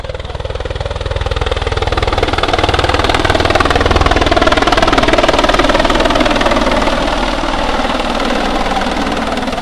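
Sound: helicopter engine running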